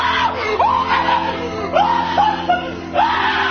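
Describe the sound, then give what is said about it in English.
A voice imitates the startled scream a man makes when people walk into the room: a few sharp, rising high-pitched yelps in quick succession, loud and strained, with no other talk over them. “Honest, that is the exact sound it's he makes true. When we walk into the room.”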